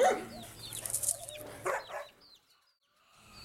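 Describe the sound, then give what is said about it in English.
A pet dog named Milo barks several times in quick, loud bursts, then the sound drops away into near silence with a faint bird-like chirp at the end; no one speaks. “Is this your pet? Yes, it is my dog, Milo.”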